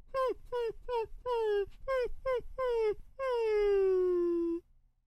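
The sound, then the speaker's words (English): A dog whimpers in a run of about eight short, falling whines, then lets out one long, drawn-out whine that slowly sinks in pitch, loud and clear with no talking. “Sad dog make a boy cry.”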